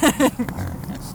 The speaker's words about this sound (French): Hop, et là, il y a le cochon. Voilà. Good, il est tout content. Là, il est heureux. Là, voilà, là, vous avez un cochon content.